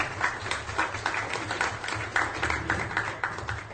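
A crowd applauds, a steady wash of many hands clapping at once with scattered sharper claps, holding a fairly even level throughout with no voices.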